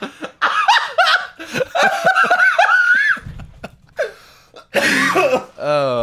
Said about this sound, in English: Oh, that hurt my brain to cough. Oh, God.